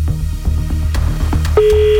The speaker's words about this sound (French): Bah, donc, on essaye de composer un numéro qui a été tiré au sort à nouveau par notre ordinateur.